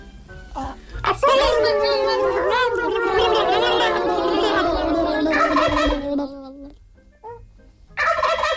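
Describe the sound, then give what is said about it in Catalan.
A person imitates a turkey gobble, a long warbling, rapidly fluttering vocal trill lasting several seconds, loud and continuous, followed by a short pause and the start of another burst. “qui és capaç de fer un endiot?”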